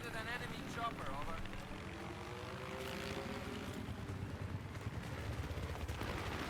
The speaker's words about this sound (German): Wow, oh, oh, oh, nein, Heli, Heli, Heli. Nein, nein, Heli, Heli, geh weg.